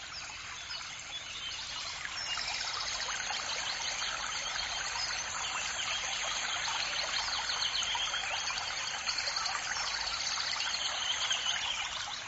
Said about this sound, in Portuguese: Os passarinhos que cantam ao fundo vão me lembrar quando a gente abre as janelas de manhã e encontra a natureza toda cantando pra gente.